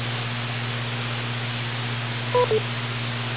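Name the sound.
radio net beep tone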